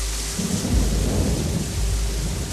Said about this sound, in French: En quelques minutes, la petite pluie va se transformer en averse diluvienne.